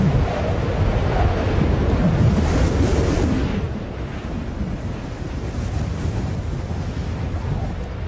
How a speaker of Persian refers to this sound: کولاک شده و باد شدیدی وزیدن گرفته است که می تواند یک هفته ادامه داشته باشد.